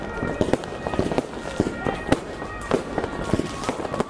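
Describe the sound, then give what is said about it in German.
Bang snaps (Knallerbsen) pop off in an irregular burst, a dozen or so quick cracks scattered over a few seconds against a busy, noisy background with some speech-like murmur. “Die Reste von dieser Knallerbse, die hingen der jungen Frau noch in den Haaren.”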